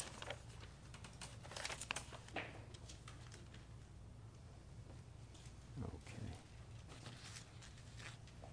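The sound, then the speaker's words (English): Quiet, irregular clicking of keys on a computer keyboard, in short bursts with brief pauses, over a low steady hum. “My typing is suffering in my old age. I used to be a touch typist.”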